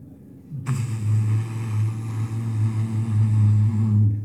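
The engine of the Bangor packet steamboat on Lake Winnipesaukee before sunrise rumbles in after a brief quiet start, a steady low throbbing drone that holds and swells slightly louder as the boat approaches, with no voices.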